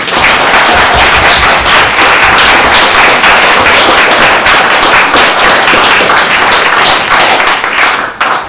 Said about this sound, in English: And a very, very big thank you to our candidates for their willingness to run for a very important office and also for taking the time to answer their questions. And now would be the appropriate time to clap.